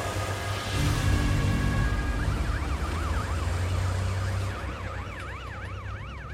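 A fire engine's wailing siren sweeps up and down in rapid cycles over the deep, steady rumble of a heavy vehicle engine, heard from inside the moving truck as it heads out at night with flashing blue lights toward a motorway bridge.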